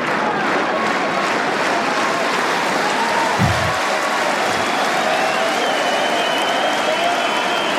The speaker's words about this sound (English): A lot of cheering. Merci, s'il vous plaît. The crowd will settle.